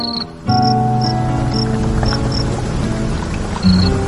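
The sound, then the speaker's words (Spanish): A cricket chirps in short, bright bursts, about seven of them at uneven intervals, clear, layered over a soft, steady musical drone. “Sereno, contento, el grillo comenzó a cantar nuevamente sus melodías de amor.”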